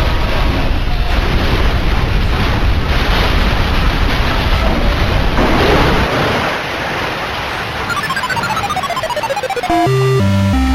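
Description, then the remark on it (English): A train crash sound effect: a dense, roaring wall of chaotic noise for about six seconds, easing off, then a run of falling electronic tones and a few short stepped beeps. “And now the train crash.”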